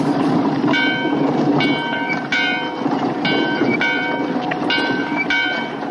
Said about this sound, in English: Yeah, he's ringing the bell like he's crazy.